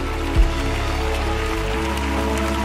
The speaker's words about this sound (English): A little more clapping at Lakewood. They're coming in. They're standing up.